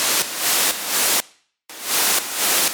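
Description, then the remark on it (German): A loud, steady burst of white-noise hiss swells in a slow pulsing rhythm, suddenly drops away into near silence for about half a second as its volume is pulled down with automation in audio editing, then comes back in softly and keeps pulsing. “Und jetzt haben wir wirklich diesen Effekt, dass da der Sound abreißt.”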